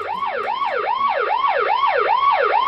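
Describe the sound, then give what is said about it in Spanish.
A Guardia Civil police car siren wails loudly, its pitch sweeping up and down in quick, regular cycles about twice per second, with no voices over it. “Pues la fiesta se acaba cuando te montan en el coche de la Benemérita.”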